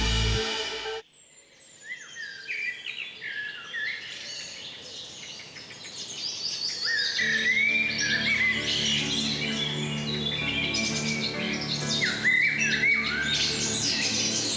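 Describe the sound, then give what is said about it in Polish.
A dense chorus of birds singing, with many overlapping chirps and whistled trills filling the air continuously, growing fuller and louder after a brief opening hum, with no voices. “Taki rozśpiewany ptakami magazyn społeczno-kulturalny Radia Xon.”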